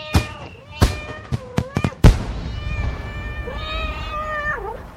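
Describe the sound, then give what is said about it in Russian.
A comic mash-up of fireworks and kittens, billed as a City Day fireworks display in Irkutsk made of kittens: a quick string of sharp firework bangs mixed with high meows, followed by a long, wavering cat meow that swoops downward at the end. “Фейерверк в городе Иркутск на день города котятами.”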